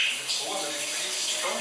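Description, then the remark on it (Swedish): A shower runs steadily, a continuous hiss of spraying water with a bright, even texture and no pauses for the whole short stretch. “Och häromdagen så skulle jag, tänkte jag så här, ja, men barnen låg så, tänkte jag så här, men då duschar jag med honom.”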